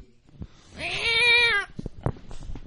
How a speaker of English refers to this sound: Don't make the cat angry. Do not anger him.